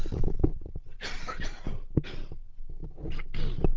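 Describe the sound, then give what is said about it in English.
Several rough, breathy coughs and throat-clearing bursts from a person with a tickly throat come in uneven clusters over a few seconds, harsh and fairly loud, with low rumbly noise between them and no talking. “Sorry, I've got a very tickly throat here. I'm going to cough again.”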